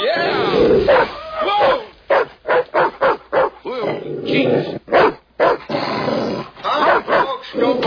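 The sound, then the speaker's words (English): A female dog barks and yips in a rapid series of short, sharp, loud bursts, with a few growly, whiny sounds mixed in and brief pauses between volleys. “What happened to that, that dog's face?”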